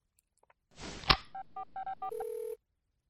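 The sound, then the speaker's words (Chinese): A brief rustling thump, then a quick run of five touch-tone dialing beeps and a steady electronic phone tone as a call is placed to a school, clear with no voices. “贱狗这就去打电话帮主人给学校请假。”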